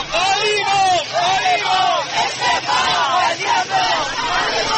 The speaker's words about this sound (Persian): روز دوشنبه در جریان تشییع پیکر آتش نشانان، مردم شعارهایی را در تقاضای استعفای شهردار تهران سر زدند.